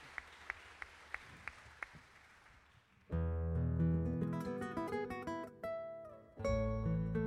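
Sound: audience applause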